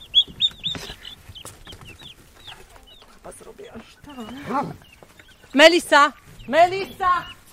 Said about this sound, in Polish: Perliczki będą krzyczeć, jak dorosną, bo one bardzo są głośne i wokalne. Zresztą mają swoim głosem odstraszać się gryzonie.